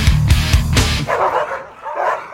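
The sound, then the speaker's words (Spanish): Several small dogs bark and yip in a dense, overlapping loud burst, with higher-pitched yelps trailing off toward the end; no talking. “Los perritos que son todos esos ladridos”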